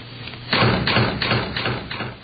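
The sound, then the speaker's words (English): Someone bangs on a door with a run of about five heavy, fairly loud thumps in a steady rhythm, each landing with a dull, booming knock and no voices. “Why are they doing that to the door? We just had it fixed.”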